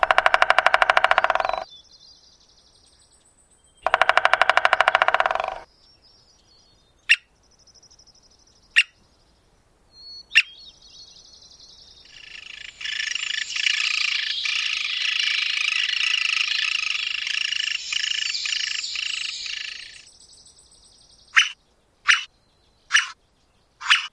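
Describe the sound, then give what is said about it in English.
An American three-toed woodpecker drums in two short, rapid rolls, then gives single sharp taps, a long stretch of high squeaky calling, and a final quick series of knocks. Clear, with no talking. Recorded by Martin Stewart for the CD The Owl and the Woodpecker. “Martin Stewart recorded the drums and squeaks of this American three-toed woodpecker for the CD The Owl and the Woodpecker.”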